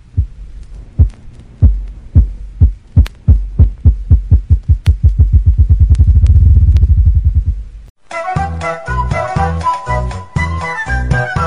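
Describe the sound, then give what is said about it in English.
A ruffed grouse drums, with deep, muffled thumps that start slow and speed up into a low rolling whir. After about eight seconds, music takes over. “Ruffed grouse.”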